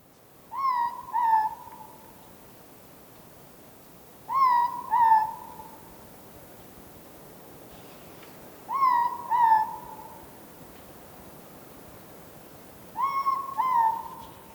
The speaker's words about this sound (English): Ruru are owls. They are nocturnal. They sleep in the day and hunt at night.